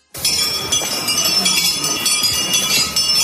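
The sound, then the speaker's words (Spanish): Metal vilortas clink and jangle continuously in an empalao procession at night in Valverde de la Vera, northern Cáceres, Spain, a dense, steady shimmer of ringing metallic tones that stays fairly loud throughout, with no clear pauses. “El sonido es el de las vilortas”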